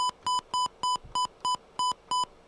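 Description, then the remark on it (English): A quick run of about nine short electronic telephone dialing beeps, evenly spaced and steady in pitch, clear with no voices, as a call is placed from the WUSB Stony Brook radio studio. “We're going to try to call him.”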